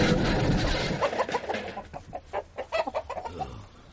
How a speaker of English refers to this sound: Foiled by a flock of renegade chickens.